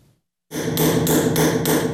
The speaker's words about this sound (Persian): حالا از هر حجره مدرسه های نامی بخارا که چندین سال درهایش بسته بود صدای سکه‌زنی کندکارها شنیده می شود.